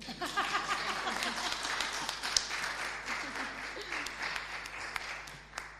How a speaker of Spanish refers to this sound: Aplaudirle.